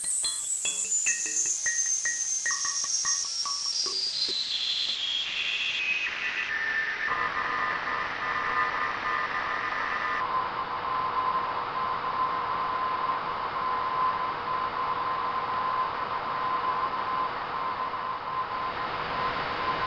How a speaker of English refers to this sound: And there it is. Very audible Morse code. What's it saying? Well, the start is pretty easy to copy. V, V, V, G, B, R. Then it gets a little bit muddy.